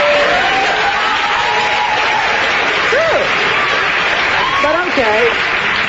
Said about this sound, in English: What are they applauding? That she's lying about being over it? She's sassy and right on. I think they're applauding at her use of Christ's sake.